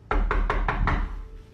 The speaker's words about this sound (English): Then there's a clear knocking sound coming from the back door.